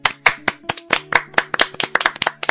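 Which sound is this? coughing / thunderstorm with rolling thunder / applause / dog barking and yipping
applause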